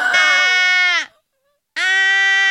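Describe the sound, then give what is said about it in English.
A baby hippo calls twice, each a loud, drawn-out, nasal bleat with a steady pitch, separated by a short pause of silence. “this baby hippo, I think, sounds like that”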